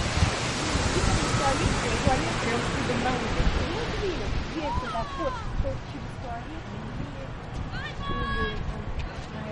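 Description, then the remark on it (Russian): A steady, loud roar of ocean surf and wind blowing at the shore, continuous throughout, with brief faint voices and high chirping sounds rising over it toward the end. “Ну, вот океан.”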